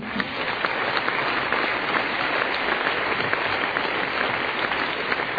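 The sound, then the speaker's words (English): A crowd applauds steadily, many hands clapping in a dense, even patter that stays loud throughout with no voices standing out. “Clap your hands.”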